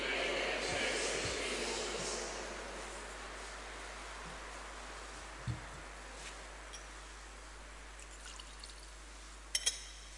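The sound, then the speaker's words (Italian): Water is poured into wine in a chalice, a soft trickle in the first couple of seconds, followed by quiet and a light metallic clink near the end. “L'acqua unita al vino sia il segno dell'unione con la vita divina di quelli che lo tessono.”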